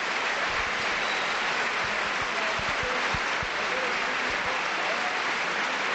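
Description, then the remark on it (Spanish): The stadium crowd at El Molinón, on its feet, gives a thunderous, sustained standing ovation as a tribute to Enrique Castro Quini: dense, continuous clapping that holds steady and loud throughout, blending into an even roar with no pauses. “Este instante todo el mundo de pie aplaudiendo, como decías, atronadora esa ovación para el brujo.”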